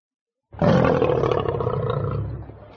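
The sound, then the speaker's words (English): A tiger lets out one loud, deep roar that starts abruptly after a brief silence, rumbling for about two seconds before slowly fading, heard alone. “What are they? They're tigers.”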